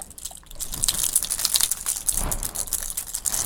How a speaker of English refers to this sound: Oh, I have some keys. Shake, shake, shake, shake, shake, shake. Ding, ding, ding, ding, ding.